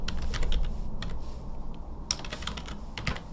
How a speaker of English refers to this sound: So we're typing in the search term,